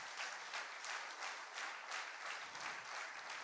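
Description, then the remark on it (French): A crowd claps steadily to applaud the mothers, a dense patter of many hands holding an even level throughout with no voices on top. “Mais j'aimerais quand même qu'on puisse applaudir les mamans.”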